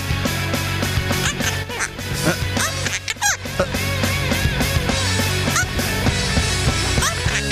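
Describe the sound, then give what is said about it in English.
A parrot repeatedly squawks out the word "fart" in a raspy, nasal voice, loud, with quacking-like calls tumbling over one another for several seconds. “she'll still find it hard to top a parrot that can say the word fart.”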